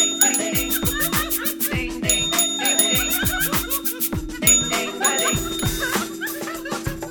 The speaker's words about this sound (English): So here's the bell.